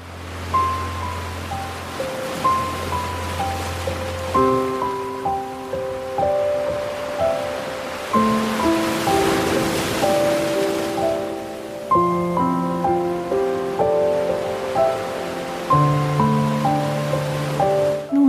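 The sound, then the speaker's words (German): Gentle sea waves wash softly onto a beach in a steady, rolling hiss, with calm sustained music chords playing over the surf throughout. “Das Meer rauscht ganz sanft und du hörst die Wellen.”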